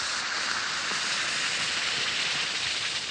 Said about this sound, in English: That fizz you hear is the action in the glass that changes Alka-Seltzer tablets into a liquid.